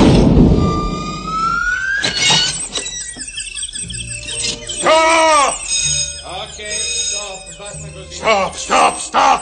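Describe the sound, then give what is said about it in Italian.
Cartoonish birds tweet and squeal in a busy run of high, swooping chirps and whistles, loud, overlapping in quick bursts with little pause between them. “Roger, che è questo? Un uccellino.”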